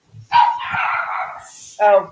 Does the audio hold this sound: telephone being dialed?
no